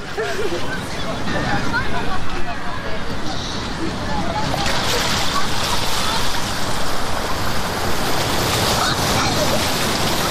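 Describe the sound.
Cold water surges up and splashes in a steady, loud, churning wash that swells slightly midway, with a faint murmur of voices mixed into the noise.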